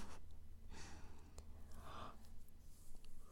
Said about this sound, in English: Oh man. I keep yawning like crazy.